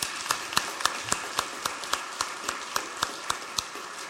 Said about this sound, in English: Can we give another round of applause to Jim and Julian?